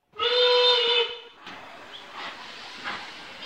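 A single loud, shrill train whistle sounds for about a second, then gives way to a steady hiss and rumbling, rattling noise of a moving train going to the park.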